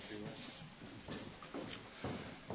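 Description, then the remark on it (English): Many Bible pages rustle and flip as an audience turns to Matthew chapter 2, a soft, continuous papery shuffle with a few louder bursts, under a faint murmur of voices. “when the rustling settles down, Harry's going to read for us”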